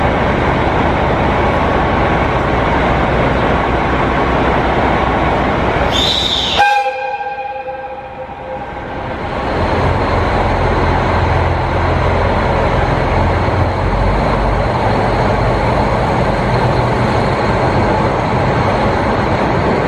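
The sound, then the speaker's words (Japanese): The pink Hanatabi Soya diesel train departs Asahikawa Station: steady engine rumble, a short horn blast near the start, then the engine revs up and rolls away, loud throughout. “この車両が旭川駅に入ってて、もうちょうど発車するところだったんですね。”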